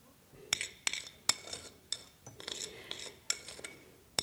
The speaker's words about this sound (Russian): Она раскладывает на тарелке только что испеченные блины.